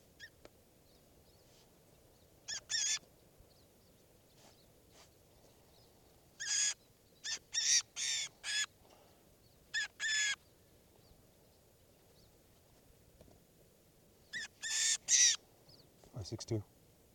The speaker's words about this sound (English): Recording, this is bird 562.